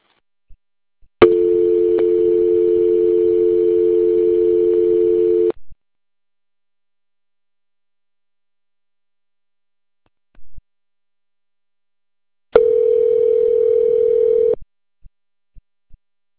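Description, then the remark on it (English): A steady telephone dial tone hums for about four seconds after a cell phone call to Cleveland EMS and fire drops, cuts off with a click, then returns for a shorter two-second stretch, followed by a few faint clicks; no one speaks. “I'm sorry, my cell phone hung up.”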